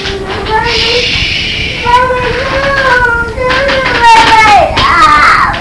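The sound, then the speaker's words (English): A toddler cries and screams at bedtime while being put to bed, in long, loud, high-pitched wails that rise and waver, with only brief breaths between them, continuing without a break for several seconds. “Do you need to scream by yourself or what?”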